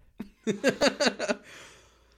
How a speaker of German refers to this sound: Ich entschuldige mich schon mal dafür, dass ich mich die ganze Zeit räusper. Ich hab einen Frosch im Hals seit 2 Stunden.